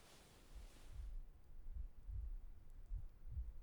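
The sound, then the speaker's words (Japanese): A mother's heartbeat, heard with a face pressed against her chest, thuds softly and muffled in a steady rhythm, about five deep beats over a few seconds, with a brief rustling hiss at the start and no voices. “そうしたら聞こえるかな、ママの心臓の音。”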